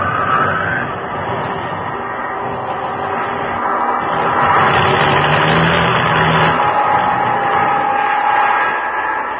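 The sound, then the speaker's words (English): A laboring aircraft engine with engine trouble sputters and strains in a loud, rough, continuous drone as the plane flies over the open ocean, swelling midway and staying steady without cutting out. No voices are heard. “Engine trouble.”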